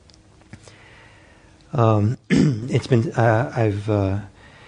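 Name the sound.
throat clearing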